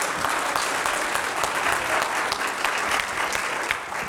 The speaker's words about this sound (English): Can we get a big round of applause for our little guys?